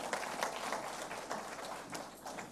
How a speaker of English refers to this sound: Y'all can clap. It's okay to do that in church.